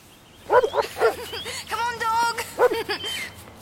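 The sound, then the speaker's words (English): A dog barks a few times, breaks into a drawn-out whining yelp, then lets out another short burst of barks. “Come on, dog.”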